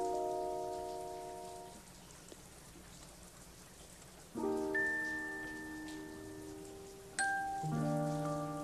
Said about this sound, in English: It doesn't often rain here, so I think I'd like to go out on the porch and just watch the rain for a while. Watch it and listen to it.